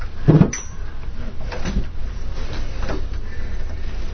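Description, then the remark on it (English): Chairs scrape and bump across the floor in a few separate bursts as people turn them to face each other, over a low, rumbling room hum, with no one talking. “Now face your chairs toward each other.”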